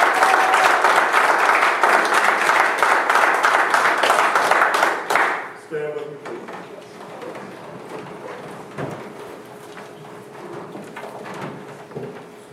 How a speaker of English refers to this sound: Give the Lord a hand of applause and a clap.